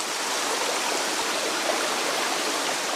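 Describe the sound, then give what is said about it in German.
A stream in the Döndal valley in Denmark rushes steadily between rock walls toward a small 20-metre waterfall, Denmark's largest, a dense, constant wash of flowing water with no voices over it. “Gut einen Kilometer schlängelt sich ein Wanderweg den Bach entlang, rechts und links Felswände bis zum Wasserfall.”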